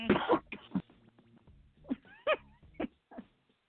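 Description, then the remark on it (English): A person coughs and clears their throat repeatedly, opening with a loud, harsh burst followed by several shorter, rasping coughs spaced out over a few seconds. “I'm just all this coughing make people think that you got Corona over there.”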